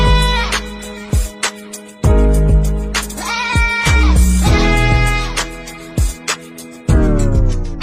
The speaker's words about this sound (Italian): Possiamo pure dire di aver superato anche il momento in cui allegri amici della burla dimostravano come qualsiasi bestia potesse, tra virgolette, cantare grazie all'autotune. E vi ricordate? Capre!